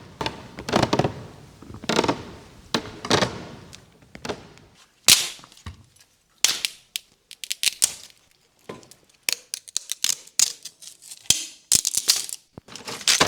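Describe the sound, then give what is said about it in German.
Wooden stairs creak with each step, growing louder, as people climb them carefully one after another in a slow, steady rhythm of groaning strains, then a sudden loud crash breaks in, followed by a scattered burst of sharp cracks and splintering snaps as the staircase collapses. “Bei jedem Schritt knarzt die Treppe, immer lauter, so scheint es.”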